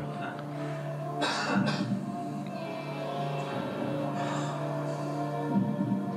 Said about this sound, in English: Now, they increased the volume of the cough for this documentary. But it was just somebody sitting in the crowd.